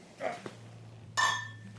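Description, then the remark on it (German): Veltins Pilsner beer bottles clink together once in a toast, a bright ringing knock that lingers briefly, preceded by a softer clatter over a low steady hum. “Ja, ja, ich würde sagen, wir stoßen mal an.”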